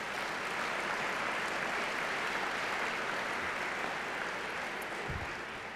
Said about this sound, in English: None of this is possible without the fantastic staff and management here at the John S. Knight Center. Join me in giving them a round of applause, please.